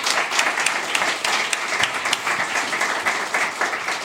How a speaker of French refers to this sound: On applaudit aujourd'hui monsieur Mathieu Madagnan, s'il vous plaît.